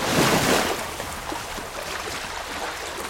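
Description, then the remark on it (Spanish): Sea waves of the sea at Almería wash in with a broad, hissing surge that swells loudly at first, then settles into a steady rushing roar of surf, with no voices present. “Mar de Almería.”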